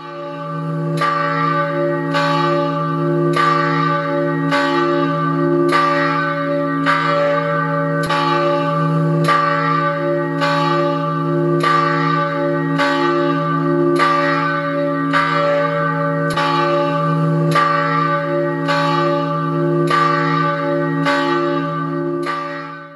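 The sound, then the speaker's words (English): A church bell tolls steadily and loudly before a church service on Memorial Day weekend, striking about once a second for around twenty strokes, each ring blending into a sustained, humming resonance. No voices are heard. “Let's pause for the ringing of the bell.”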